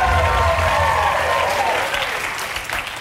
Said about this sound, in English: Please, please, hold your applause. Hold your applause.